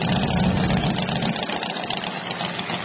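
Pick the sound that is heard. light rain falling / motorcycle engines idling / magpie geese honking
motorcycle engines idling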